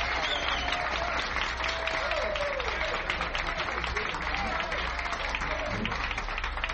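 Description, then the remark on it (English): An audience in Buffalo applauds steadily throughout for a guitarist from Columbus, Ohio, a dense wash of clapping hands with some faint voices mixed in, sustained and fairly loud from start to finish. “Let's give him a tremendous round of applause.”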